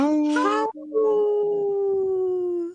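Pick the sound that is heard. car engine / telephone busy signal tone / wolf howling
wolf howling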